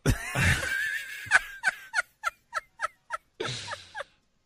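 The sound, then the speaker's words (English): A burst of rapid, throaty gurgling pulses from built-up phlegm in a throat, made on air during a radio show on 1310 and 96.7 FM The Ticket, like a turkey's gobble, with about eight sharp rhythmic clucks after a rough breathy start, ending in a short rattling trill. “That was just like, I hadn't spoken since the last segment, and that was the buildup of stuff, yes. I guess, that accumulated. Phlegm throat what?”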